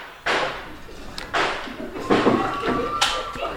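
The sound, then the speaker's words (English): Illinois State University Police Chief Aaron Woodruff fires four sharp starter pistol shots into the empty hallway of Metcalf Lab School at uneven intervals, starting ISU's annual Run, Hide, Fight drill. Each shot is a loud crack followed by a lingering echo that blurs into the next. “Illinois State University Police Chief Aaron Woodruff fires a starter pistol into the empty hallway of Metcalf Lab School, signifying the start of ISU's annual Run, Hide, Fight drill.”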